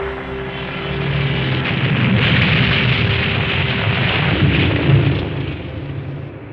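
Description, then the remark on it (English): Loud anti-aircraft gunfire from guns defending a bridge and explosive bursts rumble continuously over a droning aircraft engine as the plane is hit, forming a dense, chaotic barrage for several seconds with no voices. “he hadn't seen the anti-aircraft guns defending the bridge. His plane was hit, and he crash-landed.”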